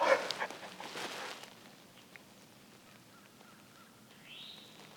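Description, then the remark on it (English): A real wild turkey hen, heard during a turkey hunt, calls with a quick run of raspy, mid-pitched yelps in the opening second and a half, then fades to a quiet outdoor hush with only faint, scattered sounds. “That's a real hen.”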